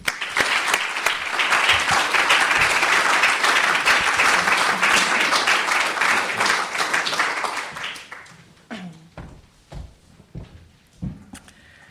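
Sustained applause from a sizable audience fills the room for about eight seconds, then thins out into a few scattered claps and faint rustling as it dies away.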